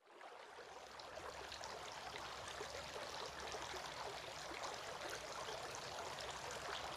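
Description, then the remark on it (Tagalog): Water is poured over hands and splashes steadily for several seconds during Islamic ritual washing (ablution), the hands washed three times; a continuous bright trickling with no pauses and no voices. “Si Muhammad sa makanya ang kapayapaan ay nagbuhos ng tubig sa kanyang mga kamay at hinugasan ito ng 3 beses.”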